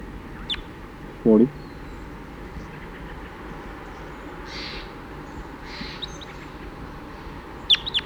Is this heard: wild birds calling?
yes